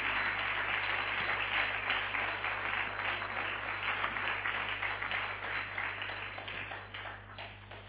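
An audience applauds for God with a dense, steady wash of many hands clapping for several seconds, tapering slightly toward the end over a faint low hum. No one speaks.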